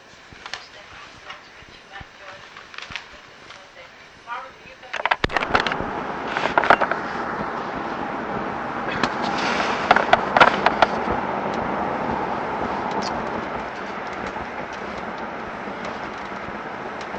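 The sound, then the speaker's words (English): Steady rumble of city traffic heard from inside a car driving away from Ernie Shore in Winston-Salem at about 1:35 in the afternoon in March, starting quiet and swelling after a few seconds into continuous road noise with occasional sharp clacks and bumps. “Okay, here I am, leaving Ernie Shore in Winston-Salem, getting lost in traffic.”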